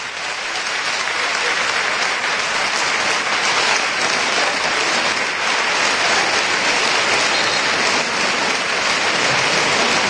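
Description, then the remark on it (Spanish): A large stadium crowd at a Recreativo de Huelva football match applauds and gives a standing ovation as players Diawara and Peter are substituted off, a dense continuous roar of clapping that holds its intensity for the full ten seconds without pause. “Aplaudidos y ovacionados en pie.”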